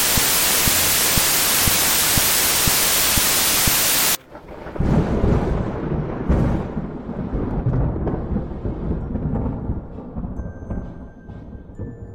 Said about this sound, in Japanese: ゴロゴロピカー、雷？